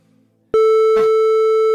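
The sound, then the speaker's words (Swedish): After a short quiet moment, a loud, steady electronic telephone ringing tone starts as a call is placed to wake someone, and holds unbroken to the end, with a brief rustling burst partway through. “Vi ringer och väcker han.”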